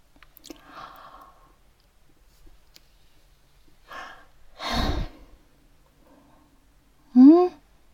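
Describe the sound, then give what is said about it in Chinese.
Breathy yawning, caught from a roommate's yawn: a long, heavy airy exhale, then a short, loud voiced groan that rises and falls at the end, with no talking. “没有没有，我室友打哈欠，我被他传染的。”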